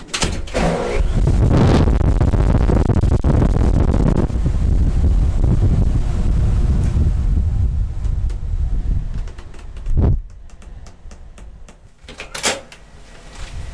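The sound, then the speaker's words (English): Loud, steady rush of blowing air from an air shower inside a transparent cleanroom cubicle fills the space for about nine seconds, then cuts off, leaving quieter room tone with a few thumps and a brief hiss near the end. “This means entering the cavern itself, and to do that, I have to step inside a transparent cubicle and receive something called an air shower.”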